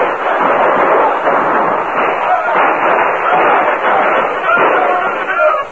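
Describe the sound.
A battle din between troops and outlaws on the banks of a river: many voices shouting over one another in a steady, loud roar, with sharp gunshots cracking through at irregular moments.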